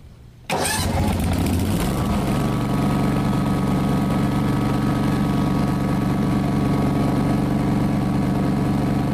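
A small lawn mower engine sputters to life after a brief low rumble, then settles into a loud, steady drone with a constant buzzing pitch, running without pause while mowing a meadow.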